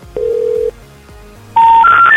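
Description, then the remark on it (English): Touch-tone telephone tones from dialing a home phone number: a steady electronic beep, a short pause, then a loud rising series of three pure tones, clear with no voices. “The number you dialed is not...”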